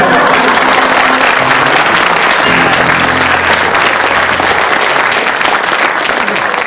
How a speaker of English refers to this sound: you have to agree that they got the greatest applause